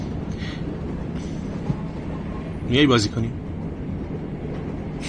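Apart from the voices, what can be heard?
train carriage interior rumble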